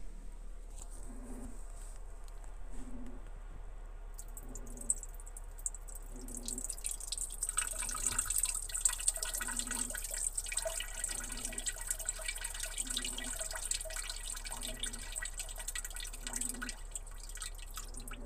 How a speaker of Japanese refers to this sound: 夕方のおしっこです。ご飯の後のおしっこなんでいっぱい出るかもしれないです。